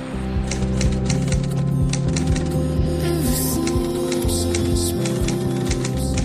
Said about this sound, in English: I hear a typewriter.